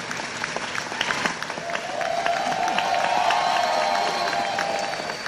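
A crowd of students claps steadily in a dense, continuous patter, with cheering and whoops rising over the applause midway and holding at a fairly loud level.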